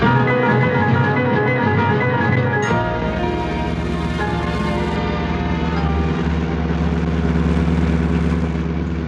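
A car engine hums steadily as the vehicle is driven toward a French restaurant, a continuous mid-to-low rumble that shifts slightly in pitch around the third second and stays loud throughout.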